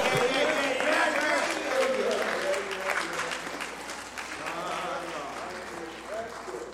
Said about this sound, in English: Help me praise him. Praise him with your hand clap. Praise him with a hallelujah.